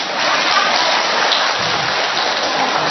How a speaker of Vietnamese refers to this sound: Ai nói không giơ tay. 2 tràng pháo tay cho những người nói không.